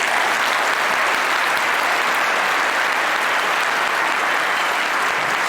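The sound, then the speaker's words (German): Steady audience applause welcoming the first guest, Linus Neumann, to the sofa, a dense wash of many hands clapping at an even loudness for about five seconds, with no voices standing out above it. “Genau, dann bitten wir unseren ersten Gast auf das Sofa und das ist Linus Neumann. Ein Applaus!”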